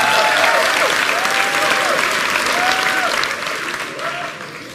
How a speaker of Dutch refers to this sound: Hartelijk bedankt, jullie mogen weer zitten. Nog 1 applaus voor deze helden.